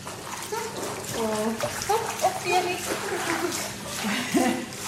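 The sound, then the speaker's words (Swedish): A female dog carrying a squeaky sock toy swims during swimming training, paddling and splashing through water in a steady, continuous sloshing, with people's voices talking in the background throughout. “Men hon simmar ju bra den här.”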